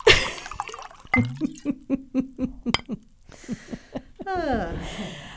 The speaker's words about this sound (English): Hold on. I'm going to pour some more wine